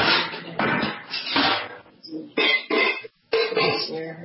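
Pots and pans bang and clatter in a series of loud, irregular bursts, with short gaps between clusters of harsh metallic knocks.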